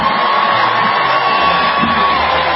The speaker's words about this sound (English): Did the crowd just cheer?